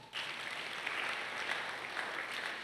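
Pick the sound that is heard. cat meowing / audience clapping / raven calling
audience clapping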